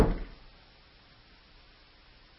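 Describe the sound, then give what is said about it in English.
A single heavy foot stomp on the ground, a dull, low thud that hits at the very start and fades quickly into near silence. No voices are heard. “By the way, if you're hearing this, I just stomped the ground like you would stomp the head of the serpent.”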